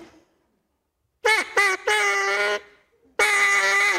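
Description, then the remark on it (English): A person blows a duck call in four raspy, honking quacks: two short ones, then a longer drawn-out blast, a pause, and a final long loud quack, clear. “Let me hear your duck call one more time because that was so thrilling to hear you learn how here.”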